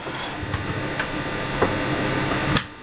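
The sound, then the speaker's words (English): An extractor fan runs during a Border Hospital Radio broadcast with a steady, broad whooshing hum, broken by a few irregular clicks and knocks spaced about half a second or more apart. No one speaks. “I'm turning off that extractor fan because it makes an awful noise.”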